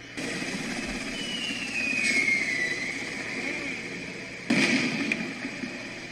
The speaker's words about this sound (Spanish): Ahí está el helicóptero.